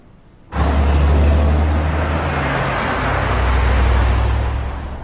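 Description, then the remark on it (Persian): A powerful luxury car engine suddenly roars up as the driver gives it gas and keeps a loud, rumbling drone, its low pitch climbing as it accelerates, with no voices. “میگم یکم گاز بده صفا کنی. بیشتر گاز بدن؟”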